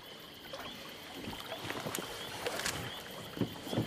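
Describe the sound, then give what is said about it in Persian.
A boat engine runs steadily on open water, a constant droning whine with scattered splashes and knocks rising over it. No one speaks. “موتور رو روشن کن”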